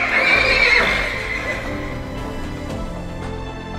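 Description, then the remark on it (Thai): The war horse Phochchaniya lets out a loud whinny as its armour is removed. The whinny rises and trails off over a few seconds, with faint hoof clip-clops and rustling underneath. No one speaks. “ส่วนรางวัลของตนยกให้นายกองม้าทั้งหมดเมื่อกล่าวจบและปลดเกราะลงจากตัวม้าโภชชนียะก็ถึงแก่ความตาย”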